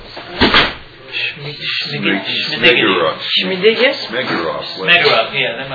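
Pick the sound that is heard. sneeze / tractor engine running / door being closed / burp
door being closed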